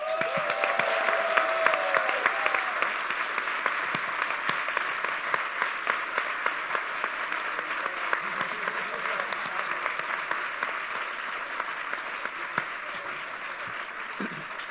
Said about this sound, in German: weil ohne die ganzen Leute, die hier für lau oder wenig oder nix oder Bier oder sonst was schuften und das an den Start bringen, die sind eigentlich hier zumindest heute die Helden und denen gehört nochmal so ein richtig fetter Applaus.